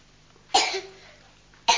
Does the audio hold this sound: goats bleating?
no